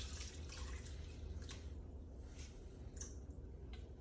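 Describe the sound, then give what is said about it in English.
Water pours steadily into a pot of curry with potatoes, peas and paneer, a continuous splashing gurgle with a few brighter splashes along the way. No one speaks. “And I need some more water, okay?”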